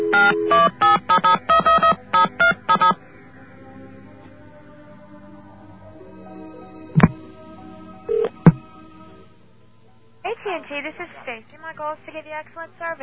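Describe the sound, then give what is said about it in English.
Rapid bursts of touch-tone dialing beeps on a telephone, then a steady, faint dial tone broken by two sharp clicks, as a call is placed to a long-distance phone company. A person starts talking near the end. “Let's grab a dial tone here.”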